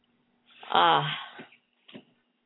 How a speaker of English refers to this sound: Another nice deep breath in.